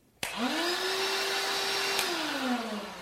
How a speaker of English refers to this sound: Lithium-ion battery-powered. DeWalt happens to be one of the leading brands in professional tools for carpenters. And this is their DeWalt portable vacuum.